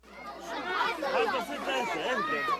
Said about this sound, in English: Desperate crowds of children and adults push and shove at a charity kitchen in Gaza City. They hold out metal pots and empty food cans for scoops of whatever's been cooked.